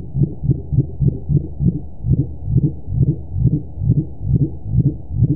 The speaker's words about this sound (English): The complex sound has a lot in common with other calls attributed to the dwarf mink whale. And this is a mink whale.